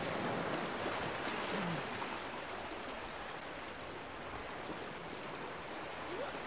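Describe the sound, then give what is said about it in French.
Waves of a rising tide wash steadily along the shore in a continuous broad roar, with no distinct breaks. Wind adds to the rush, and no one speaks. “Bon, là, on a la marée qui commence à monter, donc on va peut-être se décaler un petit peu pour être un peu plus tranquille.”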